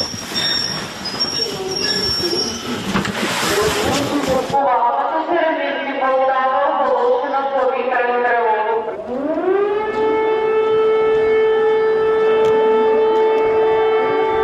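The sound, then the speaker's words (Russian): An air raid siren wails over the clatter and squeal of a train arriving at Poltava railway station in the middle of the night, its tone climbing and then holding a loud, steady, droning pitch that fills the space. “Посреди ночі Полтавський вокзал встречає поїзд з сиреною.”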